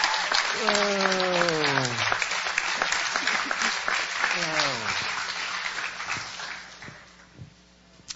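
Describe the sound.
An audience applauds in a dense, steady patter that gradually thins out, with a couple of voices calling out with long sliding whoops over the clapping.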